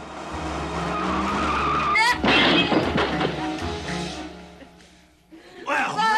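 A car's engine rumbles steadily, then tires screech in a long skid as the driver performs a quick U-turn, followed by a brief clatter and more engine noise.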